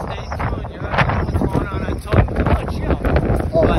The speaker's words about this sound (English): It's windy.